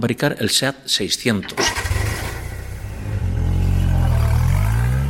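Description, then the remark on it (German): After a brief stretch of voices, the small engine of a Seat 600 car cranks and sputters to life, then settles into a steady rumble before revving higher and louder toward the end. “Das Wichtigste ist vielleicht, dass im gleichen Jahr, in dem der Toro de Osborne an die Straßen kommt, der Seat 600 auf die Straßen kommt.”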